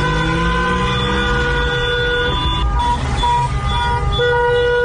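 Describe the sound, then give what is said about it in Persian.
Many car horns blare at once from people sitting in their cars protesting in Nadiabad, Shiraz, Iran, on 17 May; long overlapping tones at different pitches held steadily for the whole stretch, loud over a low rumble of street traffic. “صدای مردم شیراز رو بشنویم که در ماشین نشستن و اعتراض میکنن.”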